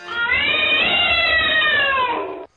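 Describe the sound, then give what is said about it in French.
A single long, drawn-out cat meow, loud, with a strained, wailing tone that holds steady for over two seconds before cutting off abruptly. “Les chats regardent les yeux jaunes fixes, les queues immobiles, les dos tendus, notre miaulement.”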